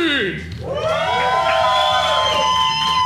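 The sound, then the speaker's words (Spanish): A lively live audience at the Salón Tractat of El Lobo Estepario cheers and shouts continuously, with high whoops and screams rising over a dense roar of voices that stays loud for the whole stretch. “Antes de estamos en vivo una vez más a las 5 y resto de la tarde en el Salón Tractat de El Lobo Estepario ante una audiencia súper linda, súper animada, súper contenta, pero sobre todo súper paciente, que se escucha así.”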